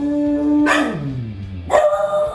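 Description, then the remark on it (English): A dog howls at fire trucks: a long, sustained wavering note that slides downward in pitch, followed by a second loud, rising cry near the end. No one speaks. “He howls at the fire trucks every day.”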